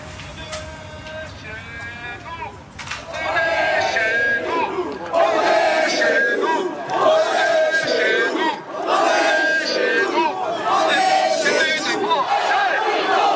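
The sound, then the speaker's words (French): A large crowd of protesters at a rally in a neighbourhood of Ajaccio shouts and chants in loud, repeated surges, voices blending into rhythmic bursts of yelling. It starts as a quieter murmur, then the shouting swells and keeps going in waves. “Le rassemblement a dégénéré lorsque des dizaines de manifestants ont fait irruption dans ce quartier sensible d'Ajaccio.”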